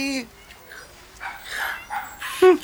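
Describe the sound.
A miniature Chihuahua by the garbage bins, picking a fight with cats, lets out sharp, high-pitched yaps: one at the very start and a louder bark near the end, with muffled rustling and faint voices in between.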